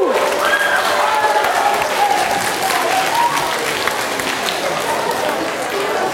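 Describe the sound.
A large audience applauds a primary school team from Marcalváros steadily for several seconds, a dense, continuous clatter of clapping hands with a few faint voices and cheers mixed in.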